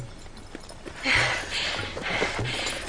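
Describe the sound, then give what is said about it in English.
The hooves of a ridden horse clip-clop in a steady, unhurried rhythm, a handful of distinct hoof strikes at moderate loudness against a faint background hiss. “Hold the reins in short so that the horse's neck is arched.”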